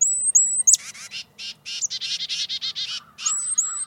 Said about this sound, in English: Chickadees, which are related to titmice, can play a similar role. Both make alarm calls that can help warn other birds about predators.